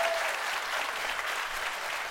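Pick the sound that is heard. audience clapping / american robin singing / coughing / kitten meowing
audience clapping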